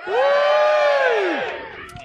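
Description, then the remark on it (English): A live audience at the Prince Charles Cinema in Leicester Square, London, cheers and shouts together in a loud burst lasting about a second and a half, with high whoops over the din, then it fades into scattered voices. “and welcome to the second half, or if you're listening at home, part two of the Monkey Tennis Live Alpha Papa special, recorded live at the Prince Charles Cinema in Leicester Square, London, where our audience will now make a short amount of noise.”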